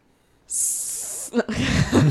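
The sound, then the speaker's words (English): A person makes a sustained, breathy hissing sound with their mouth, imitating a snake, for nearly a second, followed by a brief loud vocal burst and laughter-like noise. “Seeing a snake, sorry.”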